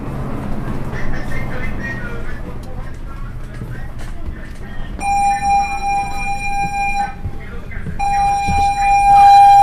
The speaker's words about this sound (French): On s'entraîne pour une guerre qu'on espère ne jamais voir. De fait de sécurité, alarme Volvo en Charlie 30-20. Le personnel évacue.